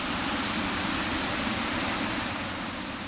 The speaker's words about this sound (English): Yet, all those miles and all that water diverted, the river here at Khotri, in the southern part of Sindh, is running at what authorities call exceptionally high flood waters. You can hear the roar of the water as it passes through this barrage.